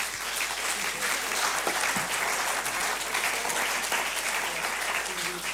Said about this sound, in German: das war unsere Podiumsdiskussion zur Landtagswahl und ich darf mich bei allen Kandidaten für die interessante und auch zum Teil lebhafte Diskussion bedanken. Bedanken darf ich mich aber auch bei dem, ja, vielleicht ein Applaus mal für die Kandidaten.